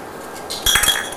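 household object, spoon clinking against dishes

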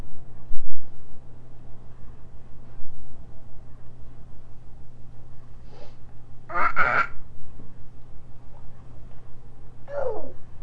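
animal, duck quacking

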